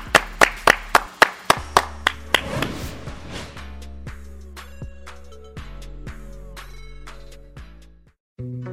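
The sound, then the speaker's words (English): Around ten sharp, evenly spaced hand claps ring out over a bright melodic backing, then the clapping stops and the tuneful music carries on alone. “Clap it up.”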